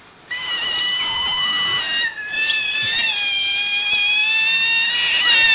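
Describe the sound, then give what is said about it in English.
Loud, continuous high-pitched squealing from several otters, shrill overlapping voices keening almost without pause, with one brief break partway through; no talking. “How many otters are there?”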